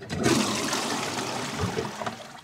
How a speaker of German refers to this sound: Und am Klo. Da habe ich schon gespült.